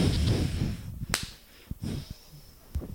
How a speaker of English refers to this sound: Big clap.